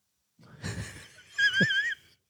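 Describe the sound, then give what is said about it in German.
A person imitates heavy, mechanical respirator breathing into a microphone: a raspy inhale followed by a louder, wheezing exhale with a whistling edge, then silence. “Schnaufen nicht vergessen. Vielleicht würde ich ins Mikrofon hier schnaufen.”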